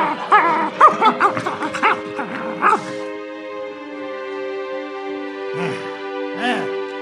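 Mongrel dogs yip and whimper in a busy flurry for a few seconds, then fall quiet before two more short whines, with a steady humming tone underneath.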